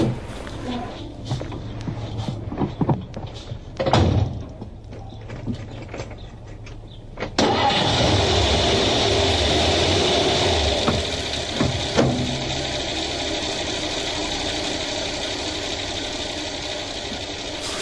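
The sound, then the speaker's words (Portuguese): A few scattered clicks and thumps, then a car engine catches abruptly and keeps running in a steady, loud rumble for the remaining ten seconds, with no talking. “Entre no meu carro e vamos pra festa.”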